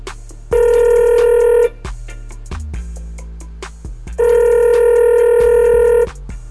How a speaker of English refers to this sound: let's dial up the phone. Let's see if we can get this working.